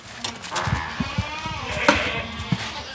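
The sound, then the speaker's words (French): Several goats bleat in overlapping, wavering calls inside a goat barn on a farm, with scattered knocks and shuffling underneath and a steady background hum. “Ça s'appelle une bergerie pour les chèvres ou une chèvrerie ?”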